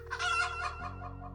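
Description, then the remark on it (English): A pet hen named Tuk-Tuk clucks in Falmouth in a short, throaty burst of calls lasting about a second, with a steady low hum running underneath and no voices. “he'd better go outside and get his pet chicken, Tuk-Tuk.”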